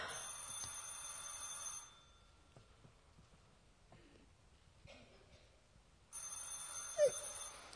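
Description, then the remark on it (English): A telephone bell rings in two bright, rattling bursts separated by a few seconds of near silence, fairly loud, with no one speaking. “I can hear the phone answering.”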